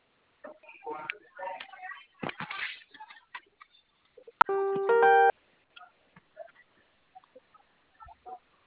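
signal or alarm, telephone keypad tone

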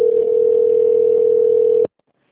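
signal or alarm, telephone line connecting tone

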